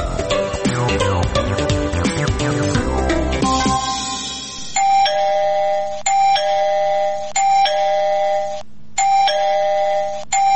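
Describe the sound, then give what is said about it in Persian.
A busy, jumbled burst of sound gives way to an electronic gate doorbell at a house, pressed again and again early in the morning, each ring a loud, sustained buzzing tone separated by brief gaps, insistent and repetitive. “کوچه کیست؟ صبر کن آمدم و صبر کن که گوشی ما را کر کدی.”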